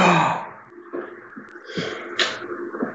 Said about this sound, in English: She gasps.